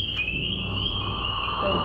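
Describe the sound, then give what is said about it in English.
A leopard frog's low, rough growling call rumbles underneath a steady, high-pitched chorus of calling insects or frogs, all continuous, with no one speaking. “What's the leopard frog is sort of growling on the bottom.”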